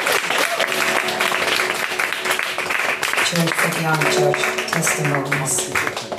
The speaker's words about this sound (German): Und da bitte ich euch doch einfach wieder einen riesen Applaus geben